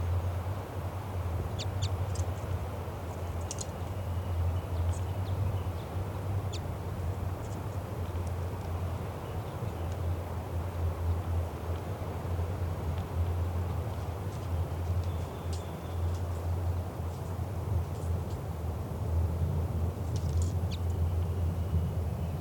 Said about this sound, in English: The 95's flight call. That's the female. This is her again. So, this is bird 395.